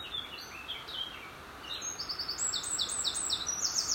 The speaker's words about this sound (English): The bird song around me here is absolutely incredible. It's quite deafening, actually. Although the roar of the Beck below, which is getting a bit more dramatic as we head down the valley, is quite loud, the birds are really overshadowing that